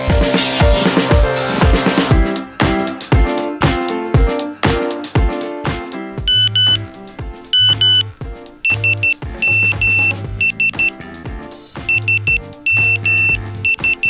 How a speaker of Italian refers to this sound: Come mi avete sentito, è appena arrivato un SMS, un messaggio di 160 caratteri che arriva sul telefonino, ma in realtà quello che è stato trasmesso è una sequenza di bit che è stata ordinata secondo un certo formato.